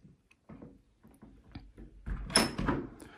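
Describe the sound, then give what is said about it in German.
The door of room number 6 is swung shut behind someone entering, with some handling rattle and a brief scrape before the solid closing thud and a faint latch click, no voices. “Schließen wir das Ganze mal hinter uns.”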